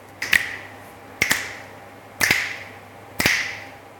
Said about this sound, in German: Du darfst anklatschen, wenn du willst. Okay, also ich schnipp's an.